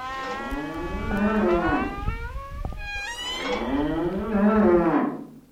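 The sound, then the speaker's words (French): Cows moo, two long drawn-out calls one after the other with a brief gap between, loud and resonant with no one speaking; three cows being taken to eat grass at the edge of a rye field. “Un dimanche matin, alors qu'il fait encore noir, elle se lève, sort sans bruit par la fenêtre et emmène ses 3 vaches manger l'herbe en bordure du champ de seigle de son père.”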